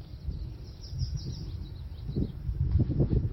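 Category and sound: bird, wild birds singing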